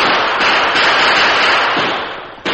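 Gunfire as the Lone Ranger and Tonto fire over the heads of the crooks Frio and Cactus: a steady, harsh crackle of rapid shots blurring into continuous noise with a few sharper cracks standing out, then a final pop at the end. No voices.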